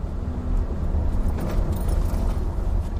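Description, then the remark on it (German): A car drives at low speed into a small village in Switzerland along narrow 30 km/h-zone streets, its steady engine rumble and road noise droning continuously throughout, with no voices. “Wir kommen in ein kleines Dorf hinein, fahren in 30er-Zone-Sträßchen und suchen irgendwie diesen Ort, wo Starlet das letzte Mal da war.”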